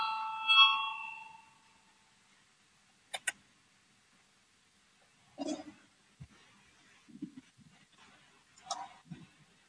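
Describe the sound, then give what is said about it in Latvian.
A brief ringing tone of a parliamentary voting bell, calling deputies to vote on a proposal, sounds at the start, then fades, followed by scattered sharp clicks and soft muffled knocks and shuffles. “Lūdzu, zvanu, balsosim par 170. Deputāta Valāņa priekšlikumu.”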